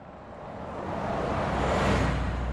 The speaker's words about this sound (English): People don't usually stop in Moneygall. The traffic just thunders through this small, impoverished town. It's one straight road lined with rather humble dwellings.